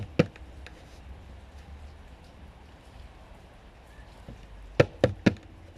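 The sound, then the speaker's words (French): Three sharp knocks on the wooden door of a house in quick succession, loud, after a single knock near the start, over a low rumbling background. “Alors il a toqué à la porte.”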